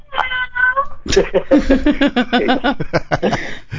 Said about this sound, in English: Is that your kitty, or is that someone you have tied up? In the background, meowing like a cat. What are you doing with a cat?